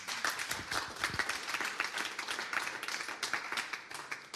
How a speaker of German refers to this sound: Applaus, ja.